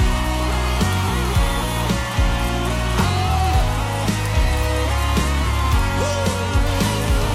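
An audience applauds in a steady, dense wash of clapping that lasts the whole stretch, layered over ongoing music with a pulsing bass line and sustained tones.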